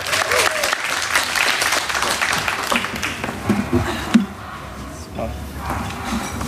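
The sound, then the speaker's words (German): A crowd claps steadily in dense, continuous applause, fading slightly toward the end, with faint voices and a brief bump underneath. “Kleiner Applaus für Martin, bitte.”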